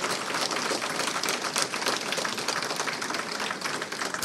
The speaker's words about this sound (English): actually, could we have a huge round of applause for the security guys? They are managing so much stuff.